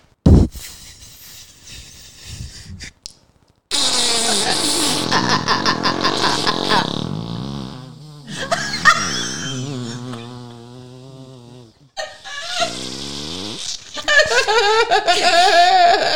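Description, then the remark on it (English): A voice imitates a long, drawn-out fart with sputtering raspberry bursts and wobbling, pitch-sliding tones, broken by short pauses and mixed with giggly, laughter-like squeaks. “And so if I were to describe Sunday in a fart, yes, it would go like this.”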